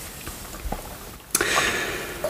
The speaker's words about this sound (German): Nee, darum mache ich ja jetzt immer den Korken wieder drauf. Plupp.